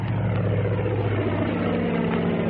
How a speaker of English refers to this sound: Slim stepped back from the runway as the plane took off. He watched the kid lift the tail a little too fast, saw him stall the ship off just before it was ready to fly.